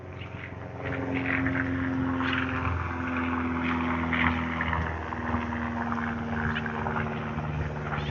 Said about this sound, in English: From where I was standing, that plane looked like it was crabbed 30 degrees.